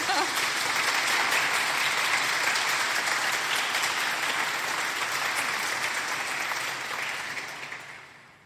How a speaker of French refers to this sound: Voilà, je crois même que je vous propose d'applaudir, peut-être, comme ça, tranquillement, voilà.